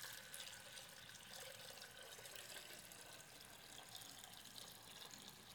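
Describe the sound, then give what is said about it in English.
Water pours steadily in a continuous rushing splash, fairly loud, with no break for several seconds and no voices. “I want you to see water poured out, like God pours out his Spirit.”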